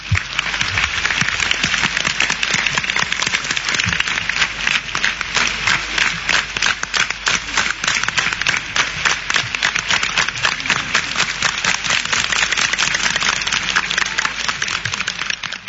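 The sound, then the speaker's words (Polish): Sustained audience applause, a dense steady patter of many hands clapping at an even loudness for about fifteen seconds, with no speech over it. “Tym razem bardzo Wam dziękuję za te oklaski w imieniu Mickiewicza.”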